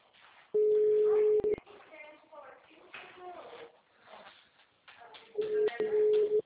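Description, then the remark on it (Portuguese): A steady, mid-pitched telephone ringback tone buzzes loudly for about a second, pauses for several seconds while someone talks quietly, then sounds again for another second. “Nossa, que demora para atender o telefone.”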